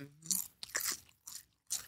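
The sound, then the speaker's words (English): Crisp crunching of someone chewing snack chips: four or five sharp, brittle bites in an uneven rhythm, with short quiet gaps between them and no talking. “I know Bo mad than a motherfucker right now because we chewing.”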